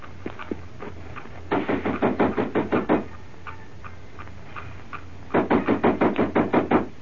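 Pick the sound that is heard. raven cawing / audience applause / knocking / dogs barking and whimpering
knocking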